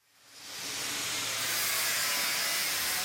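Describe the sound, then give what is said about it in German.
A grinding machine screeches steadily in a factory workshop hall about two hours' drive north of Armenia's capital, a loud, harsh high-pitched whine that swells in over the first half second and then holds continuously, with no voices. “Schweißgeräte sprühen Funken, eine Schleifmaschine kreischt”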